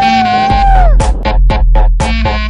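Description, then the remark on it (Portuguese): A loud human voice imitates a police siren: a long, steady wail that slides down, a quick run of pulsing yelps, then the held tone returns. “Bora, você vai imitar a sirene mais da polícia?”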